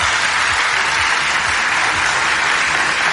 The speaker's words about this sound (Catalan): He dit que estem en l'escenari del Teatre Principal i, com tenim públic, m'agradaria, si me volen acompanyar, comencéssim el nostre programa amb un fort aplaudiment que servirà també perquè arribi als nostres oients.